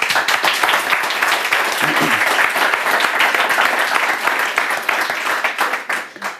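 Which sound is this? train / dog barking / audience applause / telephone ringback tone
audience applause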